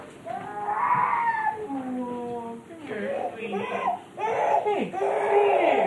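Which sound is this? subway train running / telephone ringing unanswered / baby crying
baby crying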